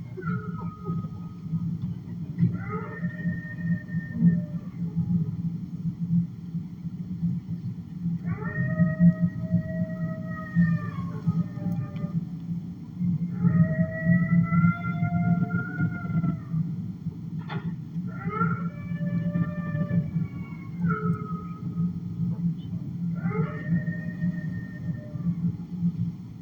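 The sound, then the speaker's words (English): Wolves howl in a series of long, wavering calls, sometimes several voices overlapping in a chorus, rising and falling over a steady low rumble, with short pauses between each round. “There's the wolves.”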